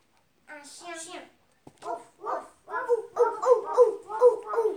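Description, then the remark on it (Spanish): A voice imitates a dog barking: a drawn-out whine, then a run of five or six quick, fairly loud woofs in steady rhythm. “Ladró el perro.”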